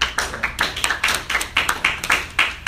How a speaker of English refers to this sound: You guys know that iconic picture of a Chinaman standing in front of a tank? Clap it up if you know that.